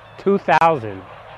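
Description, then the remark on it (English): Geese honk, two loud nasal calls in quick succession, the second longer and falling in pitch, with a faint murmur of the flock underneath; a large flock of about 2,000 geese kept at a factory before slaughter. “2,000 geese down here.”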